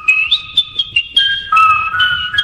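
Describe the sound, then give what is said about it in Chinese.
A person whistles a melodic tune, with clear sustained notes that glide and shift pitch in a steady rhythm, heard alone without talking. “你吹口哨好叻，我提供我都识吹。”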